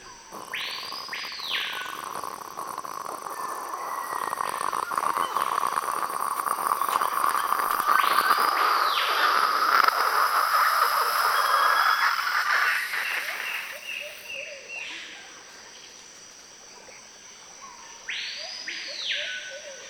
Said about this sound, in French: Et vous arrivez et vous mettez en route la bouilloire. Et la bouilloire, elle a son temps. Elle met une petite minute. Et vous êtes dans ce petit crescendo de la bouilloire.